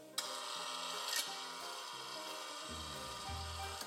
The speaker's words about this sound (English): We gotta work on that creak. It's very loud.